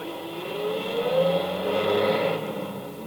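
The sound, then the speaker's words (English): A truck engine revs up and roars as it pulls away, a steady, loud rumble with rising pitch that eases slightly toward the end. No one speaks. “Get your truck out of here at once!”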